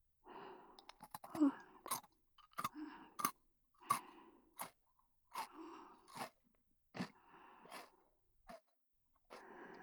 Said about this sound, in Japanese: ポリポリタイム。